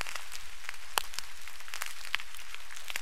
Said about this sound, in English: There are a lot of interesting natural sounds out there, such as whale songs. Dolphin clicks. And crustacean pops.